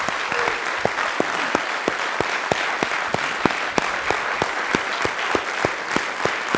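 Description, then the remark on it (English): An audience claps steadily for several seconds as a clap offering to praise the Lord, a dense wash of many hands with sharp, evenly spaced accents as some clap together in rhythm, fairly loud and with no talking. “Let's just praise the Lord through clapping because of his goodness.”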